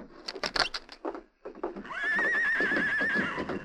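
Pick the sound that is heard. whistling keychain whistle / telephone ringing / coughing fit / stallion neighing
stallion neighing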